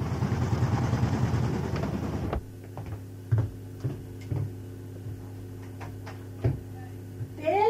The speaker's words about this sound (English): The washing machine's still going.